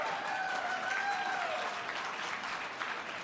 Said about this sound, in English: In fact, we've invested more than $12 million in our historic parks and added our very popular new Park Ranger program. You can give a cheer to that.